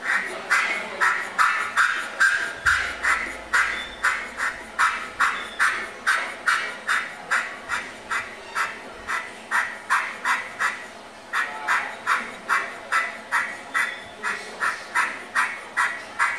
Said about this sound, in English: What kind of bird is that? Do you know? You recognize that one? That's a jay.